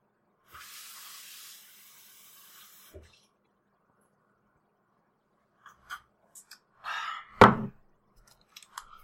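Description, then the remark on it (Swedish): A steady, airy hiss of steam from heating water runs for a couple of seconds, then cuts off; after a pause come a few soft clicks and a louder, gurgling burst. “Jag värmer.”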